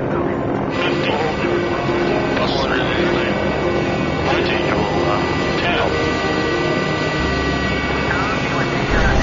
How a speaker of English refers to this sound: The four-engine turboprop covers the delivery route in half the time it takes a C-46. Landing.